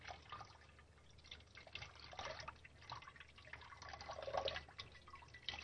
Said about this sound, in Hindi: अच्छा से वॉश कर लें इसको, अच्छे से वॉश करने से मतलब ये है कि देर तक पानी जरा बहा दें कि इसमें से स्टार्च बिल्कुल से निकल जाए पूरी तरह से।